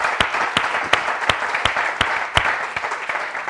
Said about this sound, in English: The Bible says in Psalms 104 to make a joyful noise unto the Lord. So can we clap our hands for Jesus this morning?